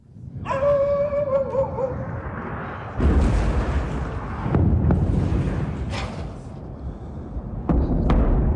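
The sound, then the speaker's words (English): Several heavy, rumbling explosions from Israeli airstrikes on Gaza in the middle of the night boom one after another, each a deep blast trailing into a low roar, with a dog's wavering howl briefly audible at the start. “Instead, people were jolted awake to the familiar, terrifying sound of Israeli airstrikes.”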